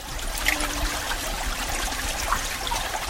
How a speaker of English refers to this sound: It's melting permafrost on the north slope of Alaska. The water here is actually burrowing down into the normally frozen tundra below.